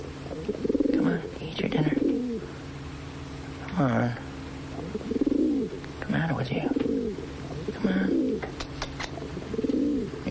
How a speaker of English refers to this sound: Dinner. Fucking bird.